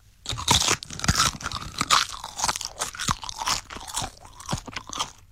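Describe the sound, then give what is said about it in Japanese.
Crisp crunching and chewing of canned seasoned Otsu nori seaweed from Yokosuka, a steady run of dry, crackly bites and munches with sharp high-pitched crackles, no talking. “しかも味付け海苔になっておりまして。まあ、缶詰に入ってるんですけど、いただきます。”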